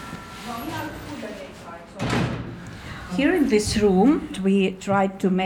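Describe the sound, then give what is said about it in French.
The door of the town museum in Sillamäe is pushed open partway with a fairly loud, rough sweep of sound, followed by voices talking over a murmur of background chatter. “pousse la porte du musée de la ville de Sillamäe.”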